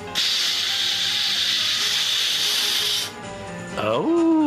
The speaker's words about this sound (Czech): Da vidimo šta pokazuje alkotest. Duvajte malo u ovaj balon.